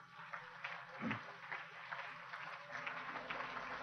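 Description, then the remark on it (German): An audience at the 2005 Swiss Big Brother Awards ceremony applauds the Emmen municipal council, winner in the State category, with a steady, dense patter of many hands clapping, fairly soft in level, sustained for the whole few seconds with no voices over it. “Ich bitte um einen großen Applaus.”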